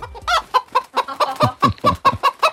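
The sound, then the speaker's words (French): A hen clucks in a quick, steady series of about ten short, throaty calls across a few seconds, with no talking. “Et pour commencer, football en Ligue des Champions, on connaît enfin la poule du PSG. Écoutez.”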